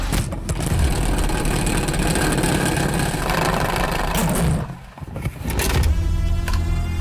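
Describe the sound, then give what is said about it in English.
A salad spinner is cranked, giving a steady loud mechanical whirring and rattling that cuts out briefly near the end, then spins back up with a higher whine. “All right, it's time to crank up the salad spinner.”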